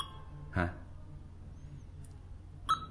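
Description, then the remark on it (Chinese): Two short electronic beeps, about two seconds apart, from the Baoyi (宝益) screen reader software, which signals copy and download progress with sound cues rising from low to high pitch. Each beep is a brief clipped tone over a low steady background hum, with no talking in between. “可以听啊，这个滴滴滴的声音都是从低到高。”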